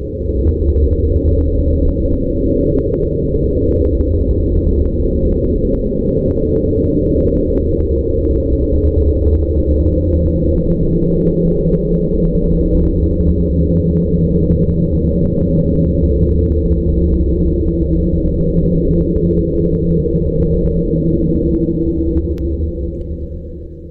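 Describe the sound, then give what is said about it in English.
A loud, continuous low-frequency underwater drone, the mysterious 'Slow Down' sound, gradually decreasing in frequency, rumbling steadily throughout with a dense, murky hum and faint crackles above it; no voices. “Like upsweep, the sound has been heard periodically since it was initially detected.”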